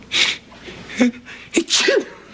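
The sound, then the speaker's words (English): A person sneezes loudly twice in quick succession, each sneeze preceded by a short voiced intake of breath, with no talking. “Oh, my gosh, two sneezes.”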